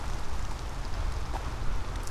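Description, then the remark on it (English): Steady rain patters down in a dense, even hiss of drops, moderately loud and continuous throughout, with no voices. “Oh, it's starting to rain pretty good.”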